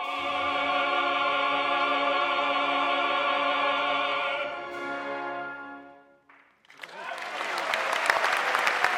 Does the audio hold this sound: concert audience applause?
yes